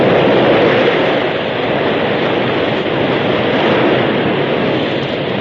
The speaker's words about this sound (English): the flood rushed by. Hungry waves broke at the very feet of the horses.